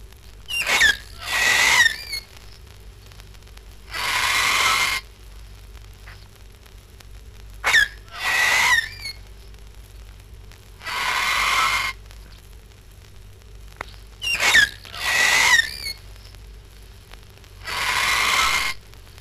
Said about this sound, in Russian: густых лесах Австралии, в цветах, кустах и зелени летают птицы пестрые невиданных цветов. Пугая злобных хищников, кричат с утра до вечера на птичьем языке.